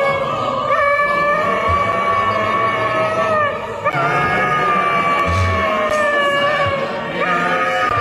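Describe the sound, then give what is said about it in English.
Mickey the dog howls along with the St Mary's Church Choir, joining in at the chorus, its long wavering cries sliding over the loud, sustained notes of the singing voices throughout. “So the St Mary's Church Choir have enlisted the help of Mickey the Dog to sing it, and it's quite impressive.”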